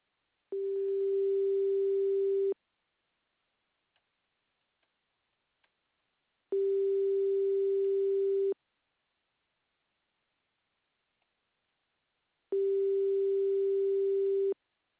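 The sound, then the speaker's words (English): A phone line ringback tone sounds three times while a customer service call is connected after screening by Smart Call Blocker, each steady two-second burst separated by about four seconds of near silence, clear and fairly loud with no voices. “Please wait a moment while your call is connected.”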